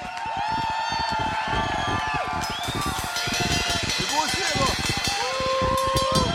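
A crowd claps and cheers loudly and continuously, with whoops and shouts rising over dense applause throughout.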